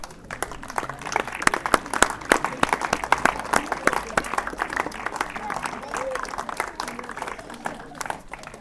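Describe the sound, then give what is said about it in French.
A crowd applauds the children at the start of a ceremony, many hands clapping in a dense, continuous patter that holds at a fairly even loudness throughout, with a faint murmur of voices underneath. “Pour commencer la cérémonie, on peut applaudir les enfants.”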